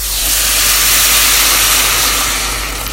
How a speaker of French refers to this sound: Voilà, on mélange bien tout ça et on va mouiller avec du bouillon. Alors du bouillon de légumes, du bouillon de bœuf, c'est comme vous préférez. Il en faut à peu près 1,5 litre.